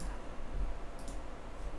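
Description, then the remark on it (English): Two quick, soft clicks of a computer mouse in quick succession, sharp and high-pitched, as a photo is pulled up on the computer, with a faint low background hum and no talking. “You might hear me clicking and moving my mouse.”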